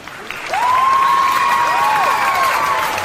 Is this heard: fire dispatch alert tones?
no